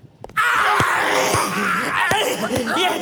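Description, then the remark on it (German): A man grabs another man by the collar and pulls him to the ground with a loud, sustained scream that bursts out abruptly and holds for several seconds, strained, while a few dull thuds of the struggle land underneath it. “packte Peter den Mann am Kragen und riss ihn mit einem lauten Schrei zu Boden”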